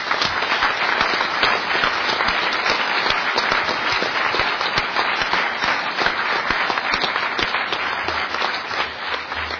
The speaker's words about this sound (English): Everybody that you see around here that's got an orange shirt on, and a few of them that don't have orange shirts on, you guys deserve a big round of applause.